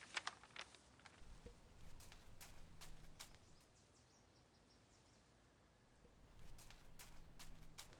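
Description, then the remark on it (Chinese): Soft footsteps and scattered light knocks and clatters as the landlord's slightly unsteady chair is carried over, fading briefly mid-way before more quiet bumps return; no one speaks. “我去把椅子搬过来”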